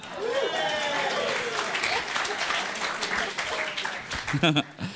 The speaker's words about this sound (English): This trip, the Australian gets more claps than anyone.